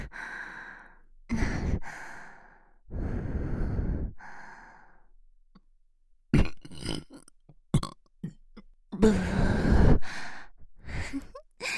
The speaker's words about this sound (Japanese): オナニー用のエロゲップ。しこらせる気満々なドスケベゲップ。